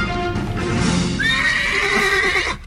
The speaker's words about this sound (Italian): Era un cavallo che si era intromesso così nella nostra registrazione.